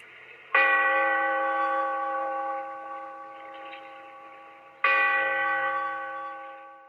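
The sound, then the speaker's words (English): A deep church bell tolls twice. Each stroke is struck sharply and left to ring out with a long, slowly fading hum. The strokes are loud and roughly four seconds apart, with no voices. “Bellkeeper, toll the bell so that all may know we are gathered again in the Weird Circle.”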